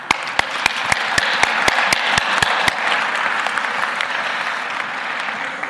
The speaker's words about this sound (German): Vielen Dank. Ihr Beifall.